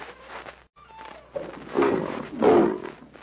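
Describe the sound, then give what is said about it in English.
A lion roars loudly, a deep rumbling growl that builds in two heavy surges, with a brief quieter lead-in before the main roar. “I think God does have a lion.”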